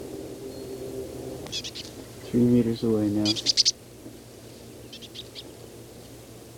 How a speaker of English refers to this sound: The same bird foraging, making these soft calls.